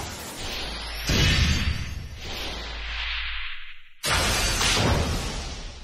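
whip lashing

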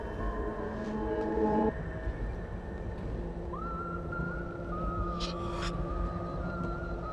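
moving train interior rumble

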